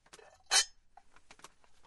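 A milk glass lid, found at a Goodwill thrift store, clinks and rattles: one bright, sharp knock stands out among several lighter taps and scrapes of glass on glass, with no talking.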